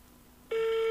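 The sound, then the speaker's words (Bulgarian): A steady phone ringing tone plays through a speakerphone as a call is placed to a person, starting abruptly halfway through after a quiet stretch and holding loud and constant, with no talking. “Пускам го и на спикър да го чуват.”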